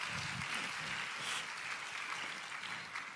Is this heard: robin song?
no